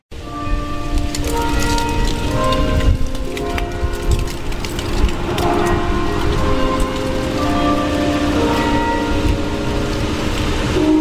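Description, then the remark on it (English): Church bells, which ring every hour and on the half hour, toll continuously, their overlapping ringing tones hanging in the air over a steady, rain-like hiss, with no voices. “The tolling of church bells unites a community.”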